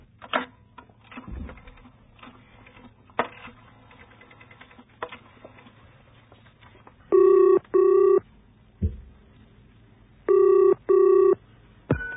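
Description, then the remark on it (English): A phone in a phone booth at an underground station in Hampstead, London, is dialed with a series of sharp mechanical clicks, then two loud double rings sound through the earpiece, brr-brr, pause, brr-brr. “I stopped at the underground station and went into a phone booth.”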